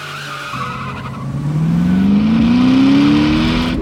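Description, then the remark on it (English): A loud car engine revs and roars as tires squeal and skid, the pitch rising steadily over a few seconds as a car accelerates hard in a street race, with no talking. “Soon, I was smoking marijuana, drinking hard liquor, and street racing.”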